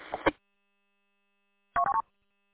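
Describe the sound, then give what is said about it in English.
A phone gives a short electronic ring, a quick chirp followed after a pause by a rapid triple beep, fairly clear with no talking. “Well, I got a phone call coming in here, so I want to let you go.”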